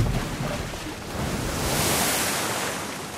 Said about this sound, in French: Il a plongé si fort qu'il a déchaîné de grosses vagues énormes qui engloutissent tes pantoufles.